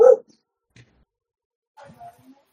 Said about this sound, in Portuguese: Um cachorro lá dentro. É a minha Luna.